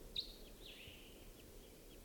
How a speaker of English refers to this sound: Decoys just got excited. I think a wild bird is around somewhere.